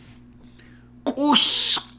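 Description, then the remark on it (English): A single voice imitates a honking sound: a short, throaty voiced burst that breaks into a loud, breathy hiss lasting under a second, with no other sounds around it. “Honking sound.”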